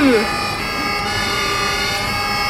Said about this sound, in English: Oh, bit noisy! These earplugs are working! Sounds like a cat eating bees! Is that... It is! Yeah, it's a busker!